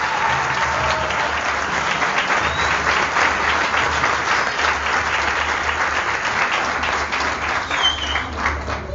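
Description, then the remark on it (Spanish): Loud, sustained applause from an audience, a dense wash of many hands clapping steadily for the whole stretch, with a low hum underneath and no one speaking over it. “Fuerte los aplausos”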